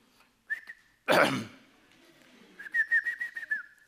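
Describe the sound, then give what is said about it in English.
A whistled call made while going around the neighborhood to gather chickens home: a short, steady whistle, a breathy throat-clearing burst, then a quick run of about six repeated mid-pitched whistle pulses, with no talking. “So we go around in the neighborhood making this sound.”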